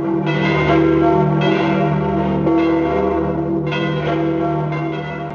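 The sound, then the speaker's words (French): A large church bell in Rome, the big bell finished by Giuseppe Valadier, tolls repeatedly, its deep strikes landing every second or so and blending into a rich, sustained metallic hum that swells and lingers throughout, loud and resonant with no voices. “C'est donc son fils Giuseppe qui finira de fondre la grosse cloche.”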